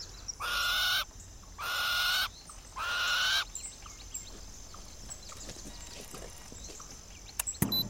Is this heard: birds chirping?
yes